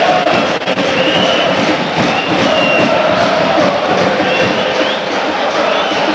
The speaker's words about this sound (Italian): Sentite i tifosi del Parma che giustamente ci credono.